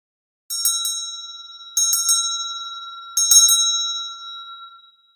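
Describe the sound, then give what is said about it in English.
A bell rings three times in quick clusters of bright metallic strikes, each set roughly a second and a half apart, with a clear sustained tone ringing on between them and slowly fading. “I'm going to ring the bell here.”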